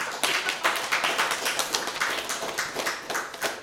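An audience applauds with dense, steady clapping that holds at an even level for a few seconds, with no voices over it.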